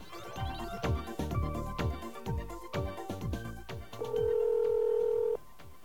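A phone number, that of radio station WBAI, is punched in on a touch-tone keypad while calling a phone bill service: a quick run of electronic tone beeps, then one steady tone held for over a second before cutting off. Nobody speaks.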